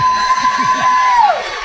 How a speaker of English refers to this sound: Unbelievable. Press box crowd erupts, and there's the celebration.